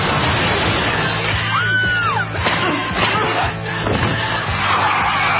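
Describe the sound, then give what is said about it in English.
Tires squeal briefly as a car skids over a dense, noisy rumble, followed by a couple of sharp thuds like a collision with a person, all loud with no talking. “You hit me with your car.”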